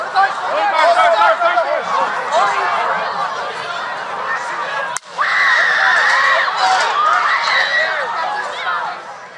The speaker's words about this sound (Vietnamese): Tiếng la hét, 17 giây sau là một tiếng nổ nữa.